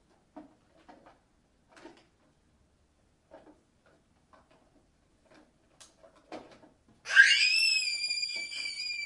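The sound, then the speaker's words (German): After a stretch of faint, scattered knocks and taps, a child's loud, high-pitched squeal suddenly erupts and holds steady for about two seconds until the end, rich in shrill harmonics. “Warum musstest du so quietschen?”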